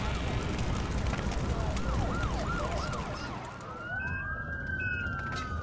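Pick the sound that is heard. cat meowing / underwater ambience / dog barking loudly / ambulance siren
ambulance siren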